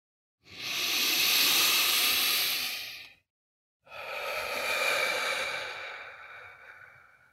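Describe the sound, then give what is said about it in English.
A slow, deep breath taken in through the nose and out through the mouth: a long airy inhale, a short pause, then a longer, softer exhale, with no talking. “As we begin this meeting together, let's allow ourselves to relax, to find a posture that feels relaxed and alert, and to take a few deep breaths, breathing in through the nose and out through the mouth.”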